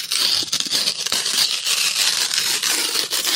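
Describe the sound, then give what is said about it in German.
Paper tearing, a continuous dry ripping and crackling that lasts a few seconds with small irregular bursts and no voices. “Papier zerreißen.”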